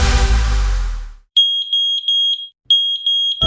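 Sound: smoke detector alarm beeping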